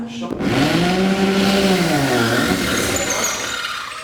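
A power drill whirs steadily and loudly for several seconds as a seminar participant slowly presses the trigger and pushes forward, drilling a hole into a wall. Its motor tone rises and dips in pitch, with a brief sound before it starts.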